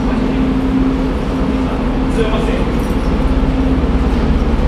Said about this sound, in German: Am Bahnsteig. Der Zug endet hier.